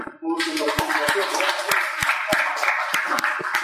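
A crowd applauds steadily for a few seconds, a dense wash of many hands clapping with sharper individual claps popping through, fairly loud and close throughout.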